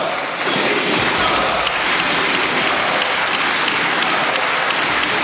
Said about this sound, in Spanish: Pues mira esta otra ovación que te traigo.